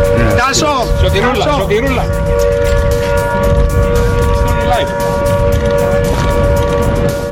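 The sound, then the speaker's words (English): A loud warning siren at RAF Akrotiri, a British military base in Cyprus, holds a steady, unbroken wail during a drone attack, with a rumble of background noise beneath it and indistinct voices rising over it in the first couple of seconds. “The government says two further drones heading towards the base were successfully intercepted as warning sirens sounded.”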